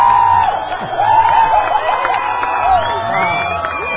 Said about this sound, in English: And the crowd loves it.